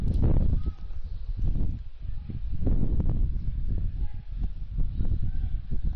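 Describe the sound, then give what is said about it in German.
Wind buffets a microphone outdoors during a football match, a continuous low rumbling roar with irregular gusty surges and faint background sounds underneath. “Es windet, wie man hört.”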